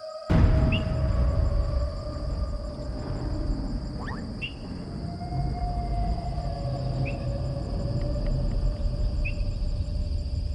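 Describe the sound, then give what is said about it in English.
Dense rainforest ambience: a steady high insect drone and scattered bird chirps over a deep, continuous rumble of thunder, with no talking. “We will be in the rain, forest. Do you feel the thunder?”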